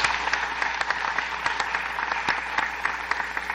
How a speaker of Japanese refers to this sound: 特になければこの事業報告を承認していただきたいと思いますので、拍手をお願いします。